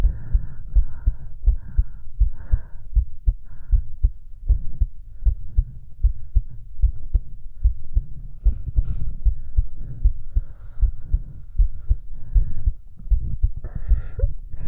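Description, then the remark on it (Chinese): A rapid heartbeat thumps steadily and quickly in muffled low pulses, one beat after another with a faint hum underneath and no voices. “老公为什么我心跳这么快？”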